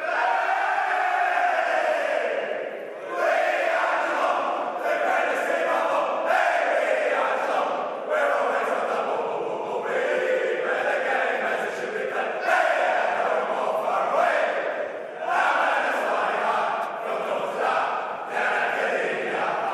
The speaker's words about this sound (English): Here's the Cats song after Cameron kicked 6. Hawkins 4 and Rowan 5. As they're just coming into the rooms now waiting for Jeremy Cameron, the man that kicked 6. Let's have a listen to the Cats song.